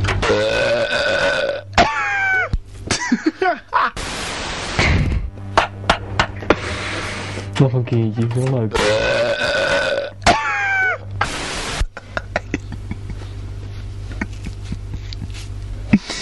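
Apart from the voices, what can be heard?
loud burping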